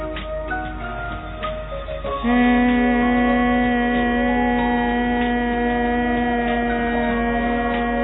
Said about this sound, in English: And the next breathing, close your ear hole with the index finger. Take a deep breath and hum sound.